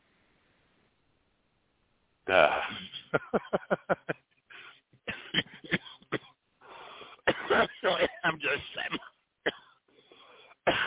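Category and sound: human body sound, coughing fit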